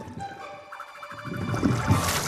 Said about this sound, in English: Turn on the hose! Water coming!